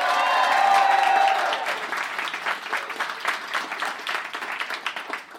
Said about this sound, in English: Give me a round of applause if you've ever heard the show at all before.